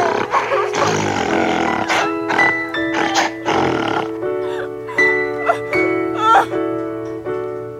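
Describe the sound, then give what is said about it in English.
Rough, throaty grunts and snorting bursts repeat in quick succession, like a boar rooting around, loud and continuous with a low droning tone beneath. “I still always wonder, am I like, is that like a boar like grunting for mushrooms or something?”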